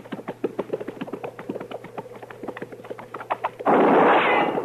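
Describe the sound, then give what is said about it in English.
A quick run of rhythmic clattering taps gives way to a sudden, loud gunshot whose harsh burst of noise rings on for about a second. “Dillon, seems like that shot came from back there.”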